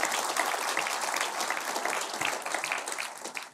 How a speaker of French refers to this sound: Bonne main d'applaudissement, ça c'est Jésus ressuscité, on est convaincus.